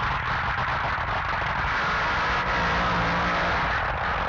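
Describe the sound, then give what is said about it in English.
A dragster burnout by Clive Skelton in the right-hand lane, his Revolution 3 chassis running the engine from his funny car: a loud, sustained engine roar with hissing, tearing tyre noise that stays steady for the whole stretch, with no one talking. “First burnout there from Clive Skelton.”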